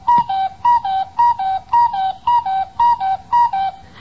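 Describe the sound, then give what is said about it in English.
A cuckoo clock, its hands just pushed around to 8 o'clock, calls its two-note 'cu-ckoo' about eight times in a steady rhythm, each pair a bright, whistle-like high tone dropping to a slightly lower one, with no talking. “I'll be right with you as soon as I check this cuckoo.”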